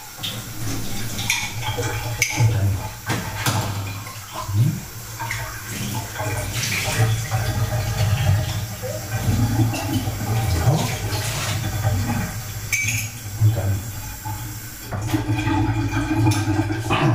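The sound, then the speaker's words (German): Water runs steadily from a tap while an emptied coffee cup is rinsed, with splashing and occasional clinks of ceramic against the sink; a voice briefly speaks a couple of words over the flow. “Also die Tasse ein bisschen abwaschen.”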